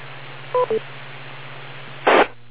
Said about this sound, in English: Now wait for the beep.